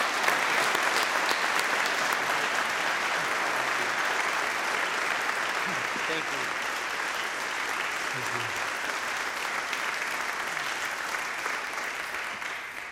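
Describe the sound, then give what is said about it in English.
Steady, sustained audience applause fills the whole stretch as a concluding applause thanking a guest speaker, a dense wash of many hands clapping at a fairly even level that tapers slightly at the end, with faint murmurs underneath. “So let's give a concluding applause to Brother Mark Job and thank him for his investment of time in us this week.”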